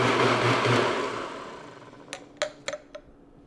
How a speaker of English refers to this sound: No eggs, just a few kinds of milk, alcohol, and some spices in the blender.